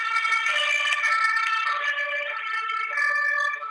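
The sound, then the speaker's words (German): A fire engine siren wails continuously and loudly, its bright, layered tone holding steady with only slight shifts in pitch for the whole stretch. No one speaks. “Da kommt die Feuerwehr, richtig.”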